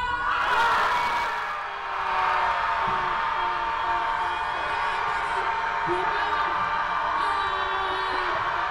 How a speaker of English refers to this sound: What better way to release some of those bottled-up emotions than with a scream?